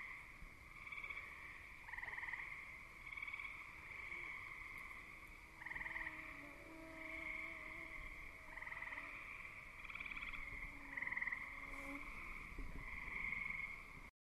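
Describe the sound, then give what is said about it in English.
A thin, wavering mosquito whine drifts past for a few seconds over a steady, dense night chorus of frogs and insects trilling outdoors. No one speaks. “So that's my soundscape with mosquitoes and all, and I came inside to escape their attack.”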